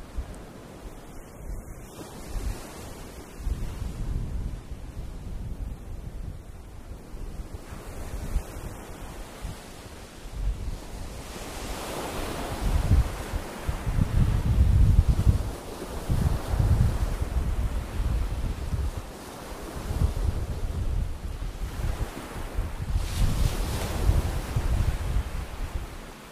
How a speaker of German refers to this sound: Ans Meer. Na klar, die Ostsee. Deswegen fahren wir doch alle so gern auf Deutschlands größte Insel. Aber wo sind wir gerade? Das ist ganz hoch droben im Norden. Der Nordstrand.